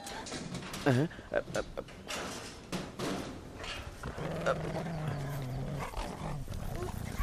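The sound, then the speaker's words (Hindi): A dog growls low and steadily, a sustained rumbling snarl under a busy, noisy scene with people's voices mixed in. “जनाब अब क्या कुत्ते से हमें कटवाएंगे आप?”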